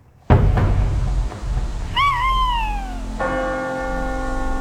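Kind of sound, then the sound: bird, owl hooting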